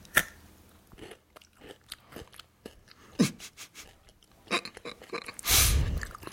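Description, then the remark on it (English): Crunchy chewing of a brittle candy bar, with repeated sharp crackles and bites in an irregular rhythm, ending in a louder rustling burst. No one speaks. “We love to hear you chew.”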